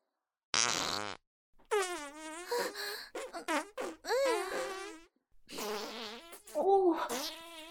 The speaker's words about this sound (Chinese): 别再放了，臭死了，你的屁比我臭多了。你要是再放屁，那我也忍不了了。